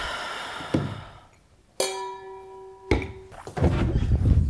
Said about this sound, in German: Oh, er hat die Tür zugemacht, ne? Hm, da war noch eine Katze drin.